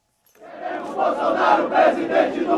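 crowd cheering

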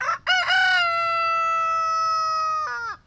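rooster crowing

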